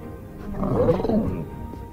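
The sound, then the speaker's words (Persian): A dragon named Thunder lets out a single deep, throaty roar that swells and then fades over about a second and a half, growling and loud, with no voices. “تندر یه اژدهاست.”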